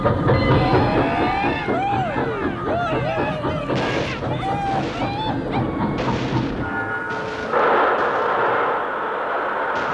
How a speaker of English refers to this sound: Railroad's coming through. Right now.